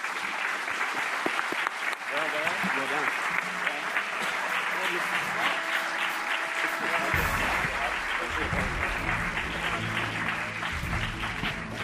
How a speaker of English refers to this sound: And that is the end of our forum. Please give these candidates a round of applause.